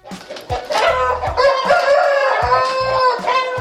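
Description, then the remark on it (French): A rooster crows loudly at a cockfight, one long, strained cock-a-doodle-doo held for several seconds, with a few dull low thumps underneath. “Les combats de coq, donc on va prendre l'exemple du Timor dans un instant”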